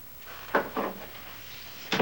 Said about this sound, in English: Charlie closes the door.